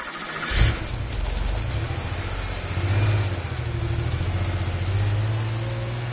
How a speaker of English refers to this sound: I could hear cars starting up and setting off all evening, and from time to time I looked out at our car park and I could see that it was almost empty.